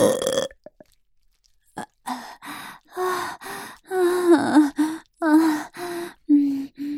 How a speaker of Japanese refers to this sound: おちんちんを入れられながらゲップするの、すっごく変態だよね。